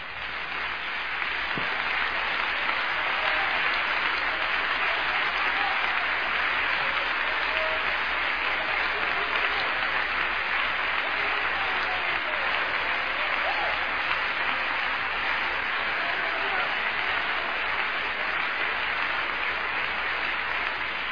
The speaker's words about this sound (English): Would you put your Bibles down and give Jesus a big hand clap right now?